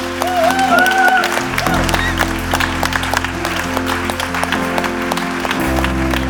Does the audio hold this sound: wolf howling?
no